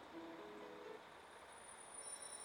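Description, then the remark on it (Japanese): A train that passengers cannot board rolls in to platform 6 of a station with a steady rumbling wash of noise, brief tonal squeals early on and thin high-pitched wheel screeches toward the end, moderately loud with no voices. “まもなく6番線に列車が到着いたします。”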